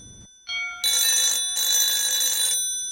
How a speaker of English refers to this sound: LV is standing in front of the ringing phone, reaching her hand tentatively forward.